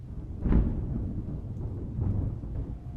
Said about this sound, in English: I couldn't move. I could only watch as the thing got closer and listen to the rumbles of the thunder threatening a storm.